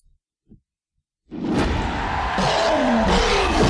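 After a second of near silence with a couple of faint taps, a loud, dense roar of crowd cheering erupts and keeps going, swelling a little louder toward the end.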